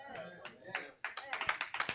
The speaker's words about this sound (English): That was a lot of words for a little clap, amen, hallelujah.